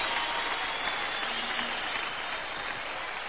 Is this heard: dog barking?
no